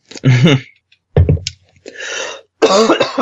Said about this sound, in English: Sorry, I'm about to cough like crazy.